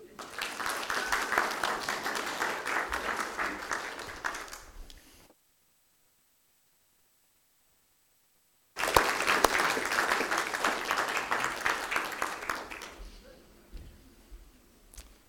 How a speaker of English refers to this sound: Can we give you a round of applause?